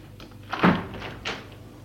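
A window being opened at night in mild weather: a solid wooden thunk as the latch or frame gives, followed about half a second later by a softer knock and brief scrape, with no voices.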